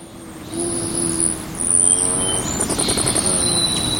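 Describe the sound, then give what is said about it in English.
A hummingbird's buzzing wing hum swells and fades as it zips past, punctuated by rapid, thin, high-pitched chirps and a quick series of squeaky twitters. “The hummingbird we hear zipping by is likely seeking out red blossoms or making a beeline for a backyard nectar feeder accented with red plastic.”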